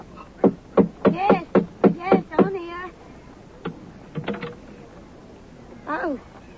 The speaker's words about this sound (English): Here we are. Just let me knock for you.